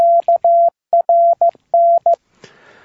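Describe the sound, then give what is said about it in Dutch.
Loud electronic four-tone selective call signalling tones, the four tones used in the Netherlands, sound in short and long bursts, repeated in three quick groups, then cut off into a brief hiss of radio static. No voices are heard. “Er is nu een 8-pins IC beschikbaar dat de in Nederland gebruikte 4 tonen kan opwekken.”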